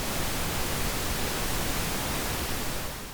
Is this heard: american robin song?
no